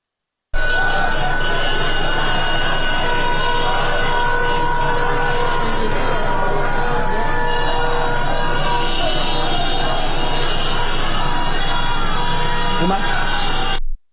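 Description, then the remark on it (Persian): Many car horns blare at once in a loud, continuous wall of overlapping steady tones at several pitches, as protesters at a street protest in Sadeghieh Square, Tehran, honk their car horns and block traffic, while a crowd yells and shouts throughout. “در ویدیویی از تظاهرات اعتراضی در فلکه صادقیه تهران مشاهده می‌شود که در بخشی از این تظاهرات معترضان با روشن کردن چراغ و به صدا درآوردن بوق ماشین‌های خود مانع تردد در برخی از خیابان‌ها شدند.”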